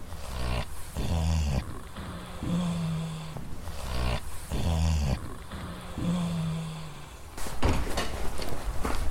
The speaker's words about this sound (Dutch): loop ik het trappetje af naar beneden waar een paar varkens hun roes uitslapen. Nou, dat is niet te snurken.